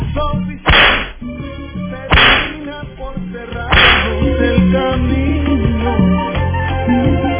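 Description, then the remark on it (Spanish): Three loud whip lashes crack out one after another, spaced about a second and a half apart, each sharp snap fading quickly over a steady, humming background bed. “Dale los latigazos y ponerle la hipocresía ahí.”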